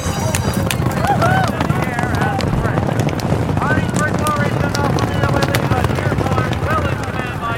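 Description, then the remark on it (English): Rapid drumming of galloping racehorse hooves coming down the stretch in a horse race runs through a dense, steady roar of crowd noise, with scattered shouting voices layered over the pounding rhythm. “I can hear the footsteps of my horse, the footsteps of his horse.”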